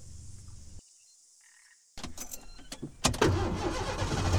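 A car engine cranks with quick rhythmic bursts, then catches and settles into a steady rumble, following a moment of near silence over faint outdoor ambience. No one speaks.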